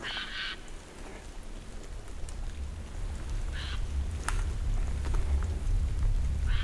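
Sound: bird calling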